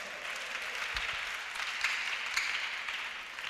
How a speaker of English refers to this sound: Clap for Jesus.